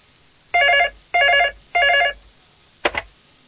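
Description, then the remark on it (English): A telephone rings three times in steady, evenly spaced loud electronic bursts as a student phones a landlord about a room to rent, followed by a short click as the line is picked up. “She has seen an advertisement and has decided to phone the landlord.”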